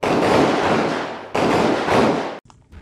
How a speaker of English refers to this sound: They barely confirmed that no one had died and that the other Black Hawk landed on the other side of the compound before they heard gunshots being fired at them.